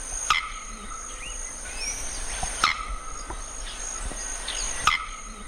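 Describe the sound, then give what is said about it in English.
A male bearded bellbird gives three sharp, clipped chirps spaced evenly about two seconds apart, like a metronome, over a steady background of buzzing insects and faint twittering birds. “But that metronome-like chirping is just one of his songs.”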